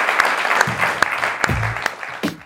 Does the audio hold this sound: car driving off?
no